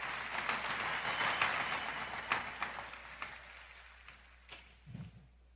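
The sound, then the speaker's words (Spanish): An audience applauds in a dense, steady wash of clapping that gradually thins and fades, ending with a few scattered, isolated claps. No one speaks. “Si usted quiere aplaudir, aplauda.”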